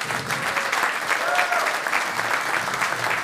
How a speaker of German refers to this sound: Sensationell. Applaus für ihn hier.